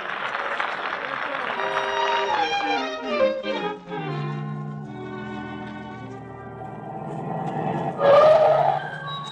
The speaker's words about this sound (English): Come on, gang. Hop in my car. We'll all go down the road.